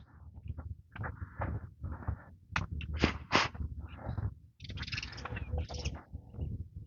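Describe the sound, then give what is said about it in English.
Sparrows chirp in the grass in quick, scattered bursts, their high twittering calls coming in clusters over a steady low rumble of outdoor background noise. “Little sparrows chippering around in the grass here.”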